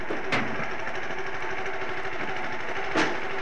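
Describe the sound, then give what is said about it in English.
A small petrol engine runs steadily with a busy mechanical chatter, driving a conveyor belt that loads coal into a locomotive tender at the milk dock at King's Cross, while two sharp bursts of clattering noise break through near the start and end. “And for the first time, we used the coaling equipment that had recently been purchased, and you can hear the little petrol engine driving the conveyor belt and the coal being loaded into the tender.”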